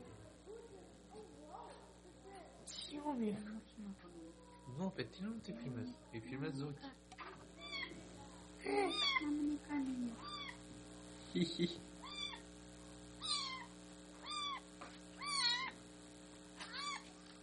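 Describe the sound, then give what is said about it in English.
A hungry cat meows repeatedly in short, rising-and-falling calls, mostly in the second half; a person's voice murmurs softly earlier, with a steady low hum underneath. “See the kitty?”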